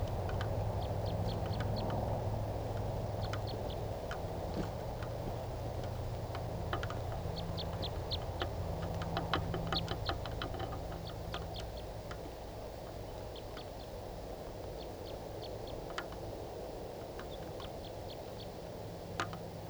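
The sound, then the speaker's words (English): A type 3 wild bird, perched at the top of a roughly 130-foot spruce tree, gives short, high chip calls in quick clusters, repeating irregularly throughout over a steady low rumble of background noise. No one speaks. “I mean, it's been about 15 minutes and that wild type 3 bird is still calling from the top of a really tall spruce tree.”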